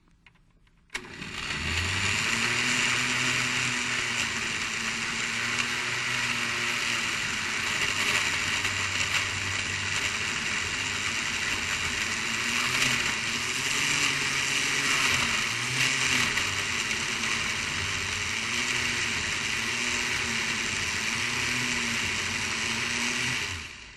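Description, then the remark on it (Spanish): A blender motor starts abruptly and runs loudly for about twenty seconds, liquefying an aloe vera (sábila) mixture with water into a purée. A steady high whir with low pitch wobbles as the thick mixture churns and shifts, with no voices. “Si ves que tiene muy seco, pues le echa un poquito más de agua para que se licúe, porque esto tiene que licuarse bien licuadito.”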